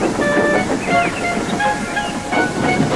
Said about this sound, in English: One day, Edward was talking to Trevor when Douglas steamed by. He was pulling a train of heavy coal cars.